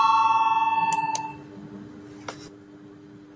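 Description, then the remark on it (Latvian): An electronic parliamentary voting bell signal rings out with steady harmonic tones that slowly fade, interrupted by a few sharp clicks, with no one speaking; it is rung before a vote on an amendment. “Lūdzu zvanu, balsosim par 21. deputātu Valēņa priekšlikumu.”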